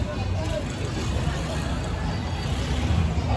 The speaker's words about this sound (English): Hey, is this guy leaving? Is this guy leaving or no? No, that's my bus. Yeah, that's my bus over there.